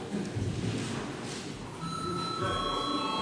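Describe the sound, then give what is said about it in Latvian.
A steady electronic bell tone sounds over a busy background murmur, starting partway through and holding a sustained high pitch to the end, rung in a session of the Latvian Saeima (parliament) to call deputies to a vote. “Lūdzu zvanu.”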